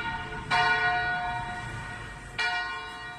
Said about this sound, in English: The bells at Rochester Cathedral have been rung 99 times.